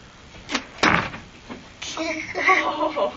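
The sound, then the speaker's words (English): A thrown ball smacks into a door with a loud thud, just after a softer tap, and then people start talking. “Boom, you right through my hands through the door.”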